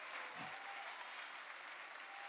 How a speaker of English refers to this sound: Come on, church, let's give the Lord a hand clap.